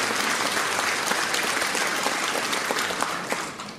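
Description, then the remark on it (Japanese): A room full of people claps steadily, a dense, continuous patter of many hands that holds at an even level and fades slightly near the end, with no voices over it. “どうぞ拍手をお願いいたします。”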